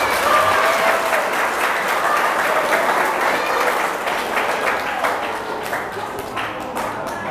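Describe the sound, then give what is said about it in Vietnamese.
A group of children clap loudly in sustained applause, a dense steady patter of many hands that holds strong for several seconds before gradually thinning with a few sharper claps near the end. “Cho một chàng vỗ tay thật lớn nữa nào.”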